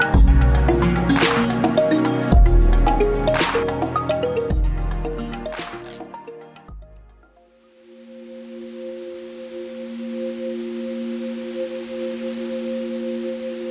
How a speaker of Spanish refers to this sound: Lecturas con música de olas.